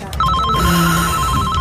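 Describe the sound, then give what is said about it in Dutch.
A telephone rings with a rapid, warbling electronic trill, loud, repeating steadily over a low background hum. “Alweer die telefoon.”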